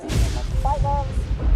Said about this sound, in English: Whoa, listen to that thunder and lightning. That's one big storm.